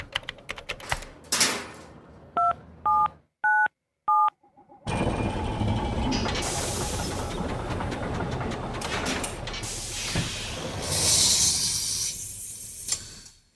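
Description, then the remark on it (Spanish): Keypad tones of a time machine console: a few clicks, then four short, evenly spaced dual-pitch beeps, followed by a loud, sustained whooshing, rumbling noise with a hissy swell near the end. “tenemos delante de nosotros el teclado de nuestra máquina del tiempo.”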